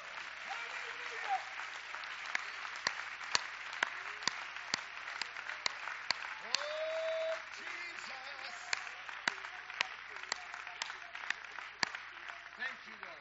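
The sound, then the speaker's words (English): An audience claps their hands for victory in dense, continuous applause, with sharper individual claps standing out at a fairly even rhythm; brief vocal tones rise through it, including one sustained note midway. “Let's clap our hands for victory.”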